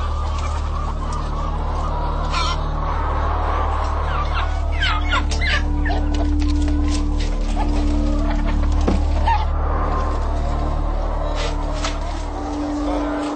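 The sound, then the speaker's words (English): A dense chorus of egg-laying hens clucks and squawks throughout over a steady low mechanical hum, with scattered bursts of frantic wing flapping as a worker tries to kill a sick hen by breaking her neck and she flaps and struggles. “Here, a worker attempts to kill a sick hen by breaking her neck. She flaps and struggles before being kicked into the manure pit.”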